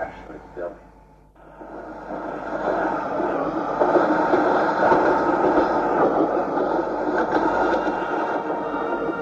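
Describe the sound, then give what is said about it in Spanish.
A steady, loud rail rumble fills a busy central interurban train station in Nagasaki after a brief quieter moment, continuous, with murmuring voices beneath the mechanical din. “Llegan hasta la estación central de trenes interurbanos.”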